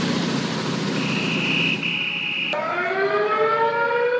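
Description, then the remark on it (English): Sirens blare loudly at midnight outside an ICE facility in Portland, not from authorities, a steady high tone giving way to several overlapping wails that sweep up and down, all over a constant rumbling background noise. No one speaks. “There's your sirens.”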